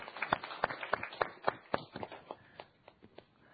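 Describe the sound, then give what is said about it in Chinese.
A small group of attendees at the eleventh meeting of the Tsuen Wan District Council Traffic and Transport Committee applauds to welcome a new ADO, with brisk, sharp claps in a quick, uneven rhythm, loud at first, then thinning out and fading over a few seconds. No one speaks. “咁啊，俾掌声啊，欢迎 ADO。”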